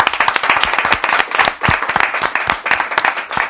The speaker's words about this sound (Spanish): Un besito a toda la audiencia también. Un aplauso.